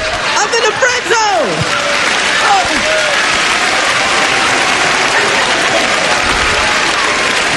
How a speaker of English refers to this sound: The laugh works into the applause.